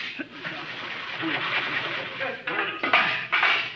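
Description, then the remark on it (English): A door is handled, with a few sharp clunks and rattles near the end over a steady hiss, as if it swings open and then shuts. “Door.”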